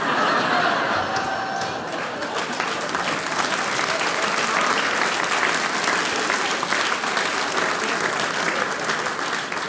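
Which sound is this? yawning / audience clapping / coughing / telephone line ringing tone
audience clapping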